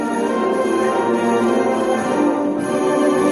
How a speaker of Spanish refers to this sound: ¡Que suenen auroras las campanillas!